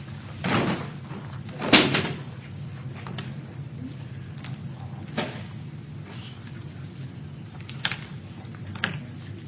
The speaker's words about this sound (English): Did those things just fall, or were they? No. They were knocked over? Kicked. They were kicked.